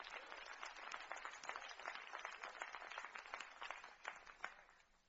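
A crowd applauds steadily, dense overlapping hand claps forming a continuous wash that holds for several seconds before tapering off near the end.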